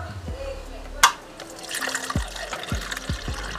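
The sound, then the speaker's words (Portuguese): A sharp click, then water pours steadily into a coffee maker's reservoir, a continuous splashing rush that fills the second half with faint low thumps underneath. “Agora eu tô enchendo a cafeteira com água.”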